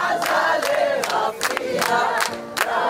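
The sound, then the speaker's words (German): A large crowd on Hostages Square in Tel Aviv, Israel, cheers and sings together at news of the deal to end the war and free the hostages, a dense roar of many voices with a melody running through it and sharp rhythmic bursts of shouting or clapping about twice a second. “Die Menschen singen, weinen und können es nicht glauben.”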